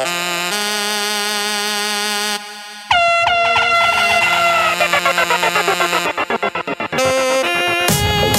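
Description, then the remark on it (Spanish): Rooster crows, loud and heavily processed, chopped into rapid stuttering repeats inside a dense electronic track, layered with blaring horn-like synth tones and no voices. “Los gallos, hasta los gallos me salen pretty, pa' que sepa.”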